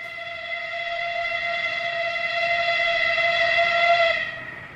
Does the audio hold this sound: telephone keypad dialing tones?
no